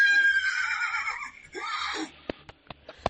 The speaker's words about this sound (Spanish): este sonido de caballos al galope nos sitúa en la leyenda del espíritu del Calatravo